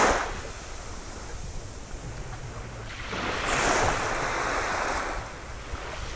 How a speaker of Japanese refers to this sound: それではこれからただ波の音色を聞きながらハートでリラックスする時間を保ちます。